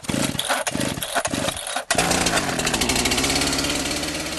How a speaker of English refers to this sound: The burly, bearded chainsaw sculptor wields his 48-inch big dog with the agility and grace of a Jedi Knight.